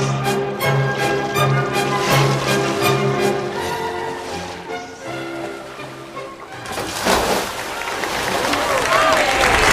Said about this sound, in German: Anschließender Applaus wollte kein Ende nehmen und machte die Mädchen überglücklich.